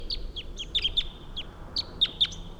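wild bird calling

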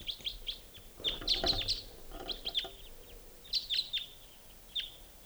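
flock of birds calling

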